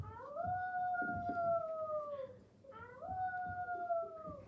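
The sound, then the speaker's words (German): A wolf in a cave whimpers in two long, drawn-out whining cries while licking its bleeding, wounded paw, each cry holding a steady pitch before sagging at the end, clear over a low background rumble. “doch der Wolf winselte und leckte seine Pfote.”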